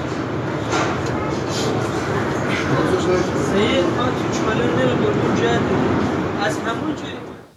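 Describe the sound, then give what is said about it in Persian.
Steady, loud rumble of a moving train in Iran heard from inside the carriage, where a person whose wheelchair is outside the train moves with difficulty and two passengers come to help; a dense mechanical roar throughout with indistinct voices mixed in, fading out at the very end. “ویلچر فردی بیرون قطاره و خودش به سختی در حال جابجایی در قطار برای نزدیک شدن به ویلچرش که دو نفر از مسافران به کمکش میان.”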